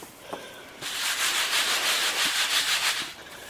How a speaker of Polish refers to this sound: to właśnie się przesiewało przez takie coś się nazywa przetak. No w późniejszym czasie nastały takie wialnie, no ale, a ja pokażę na przykładzie tego przetaka. Właśnie takimi ruchami czyściło się właśnie to.